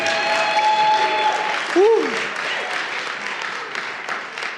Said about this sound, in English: Y'all, somebody clap. Just clap.